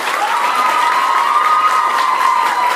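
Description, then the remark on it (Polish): An audience at the final of the 5th Festiwal Dobrej Piosenki (Good Song Festival) claps and cheers in a dense, steady roar for about three seconds at the host's request, with a sustained high-pitched tone running through the applause from start to finish. “Poproszę o Wasze oklaski teraz!”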